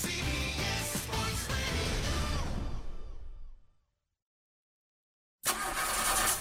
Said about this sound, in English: If that sound gives you nightmares, there's a cheap and easy way to avoid engines not firing.